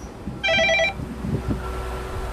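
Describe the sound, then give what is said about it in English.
A construction elevator's call signal at a bridge demolition site rings in one short, loud electric trill, about half a second of rapid high-pitched pulsing, followed by steady low rumbling and scattered clanks. “This is calling the construction elevator.”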